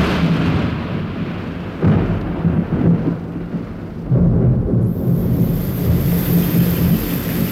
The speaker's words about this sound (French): Tiens, là la pluie.